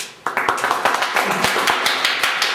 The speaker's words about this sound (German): Applaus bitte.